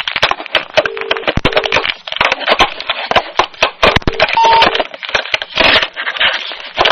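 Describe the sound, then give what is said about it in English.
Loud plastic clattering and knocking as a telephone handset is fumbled and hung up, with a few brief electronic tones sounding among the rattles. “Learn to hang up the phone.”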